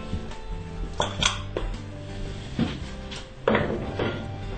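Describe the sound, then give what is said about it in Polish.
Diced carrot drops into a pot of boiling soup in a few quick bursts, soft plops and clinks against the pot, over a steady low kitchen hum. “Wrzucamy ją do zupy.”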